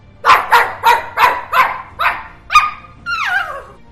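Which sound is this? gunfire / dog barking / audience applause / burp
dog barking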